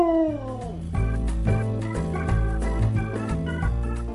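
Dogs howl loudly, starting with a long, falling howl, then a steady run of overlapping, pitched howls and yips over a deep, continuous rumble. No one speaks.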